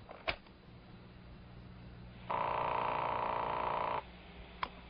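A sharp click, then a steady electronic telephone tone droning for nearly two seconds before cutting off, followed by another faint click over a quiet line hiss, from a telephone answering-tape recording of a phone call. No one speaks.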